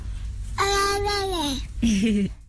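A baby babbles in a voice message, in two high, drawn-out vocal bursts, the first long and gliding downward, the second shorter, fairly loud with a faint background hiss.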